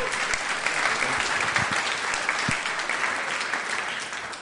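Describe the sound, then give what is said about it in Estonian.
An audience claps steadily to welcome a speaker, a dense wash of applause that stays loud and even for several seconds before easing slightly at the end. “Anname ühe sooja aplausi tervituseks.”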